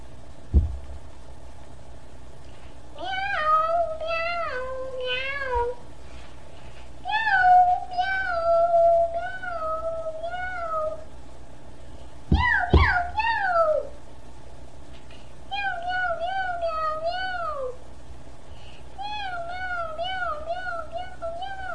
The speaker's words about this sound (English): Meow, meow, meow.